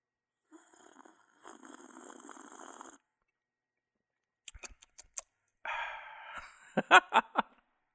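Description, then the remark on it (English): Someone sips tea: a long, airy slurp, then a few quick clicks and gulps, followed by a shorter slurp and several sharp, louder swallowing sounds. No one speaks. “So let me take another sip of my tea for all of my mukbang listeners and viewers.”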